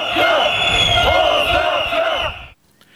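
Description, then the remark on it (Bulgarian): A loud crowd of protesters chants in unison while marching to the Social Ministry, voices rising and falling in a repeated rhythmic pattern, then the sound cuts off abruptly near the end. “Със скандирания протестиращите отидоха до Социалното министерство”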